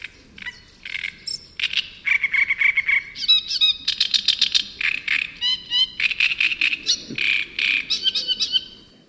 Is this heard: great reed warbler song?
yes